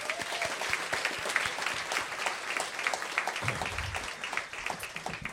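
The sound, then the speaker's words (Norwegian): An audience applauds a bat expert introduced at the season's first show after the summer break, many hands clapping in a dense, crackling wash that holds at an even level for several seconds, with no voices over it. “Gi en stor applaus til mannen som skal fortelle om dette, flaggemusekspert”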